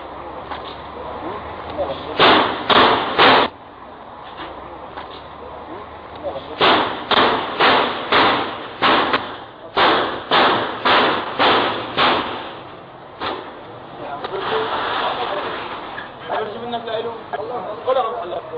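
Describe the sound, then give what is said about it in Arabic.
Loud metallic banging and crashing come in rapid clusters as Assad's forces force and break off the doors of shops closed for a general strike in Daraa al-Mahatta, with bursts of four or five hard blows separated by brief pauses, and voices in the background. “فلنشاهد إذن الإضراب الكبير في درعا المحطة وعصابات الأسد وهي تخلع أبواب المحال التجارية.”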